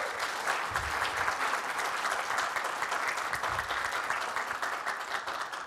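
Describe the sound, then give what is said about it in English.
A crowd applauds the cafe team on Palm Sunday, dense overlapping claps holding at an even, fairly loud level for several seconds with no speech over it. “If we could just give them another round of applause.”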